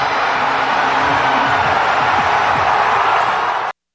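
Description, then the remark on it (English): A football stadium crowd cheers after a Ravens field goal attempt goes wide right and the Steelers win the North division. A loud, dense, unbroken roar lasts nearly four seconds, with scattered individual shouts rising through the wash of noise before it cuts off abruptly. “Wow, that crowd is amazing.”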